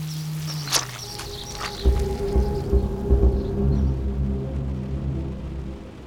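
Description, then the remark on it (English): Steady rain hisses throughout, joined by a few footsteps and a low, rumbling undertone, with no one speaking. “Anything we have to say to each other, the rain can hear too.”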